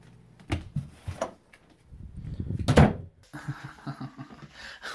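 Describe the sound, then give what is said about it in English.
A bedroom door swings shut with a solid thud, preceded by a couple of lighter knocks and shuffling, then the ambience shifts to a quieter, boxier sound. “I don't know why I closed the door.”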